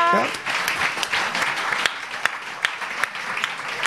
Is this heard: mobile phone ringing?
no